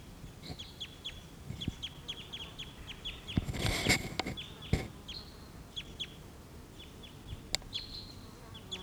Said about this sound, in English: Stop. Here's a bird.